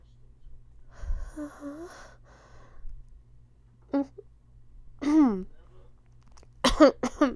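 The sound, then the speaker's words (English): A few harsh coughs burst out near the end, two in quick succession, after some breathy vocal noises and a low steady hum in the background. “No, I just got a cough.”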